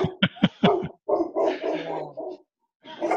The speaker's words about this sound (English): Just get all the dogs to start to bark